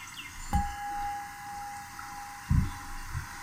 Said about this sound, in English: Play some rain music.